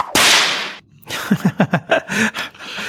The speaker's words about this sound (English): That sounded like a whip. I don't want to know any more about that.